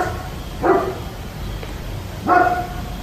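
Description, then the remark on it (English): A big, thick dog barks twice at 2:30 in the morning, the deep woofs spaced well apart against a quiet, steady background hiss with no talking. “I don't know where the dog is, but in the middle of the night, all the time, it barks at random hours, 2 o'clock, 3 o'clock, 1 o'clock in the morning.”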